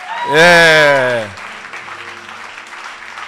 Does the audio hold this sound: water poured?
no